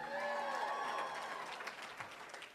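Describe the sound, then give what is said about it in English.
A crowd applauds in a dense, steady wash of clapping, with a few voices cheering over it, holding strong before easing off slightly at the end. “I know that may seem like a cheap way to get applause, and thank you very much, it works.”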